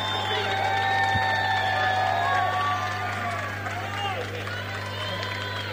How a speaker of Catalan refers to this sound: Un fort aplaudiment